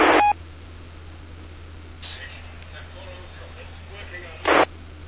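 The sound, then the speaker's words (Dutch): A faint, weakly modulated radio transmission from a station calling in to a radio net: a muffled, barely audible voice under steady hiss and low hum, framed by two short, loud tone bursts at the start and near the end. “Nou, ik hoor wel iets in de verte, maar bij een beetje weinig modulatie.”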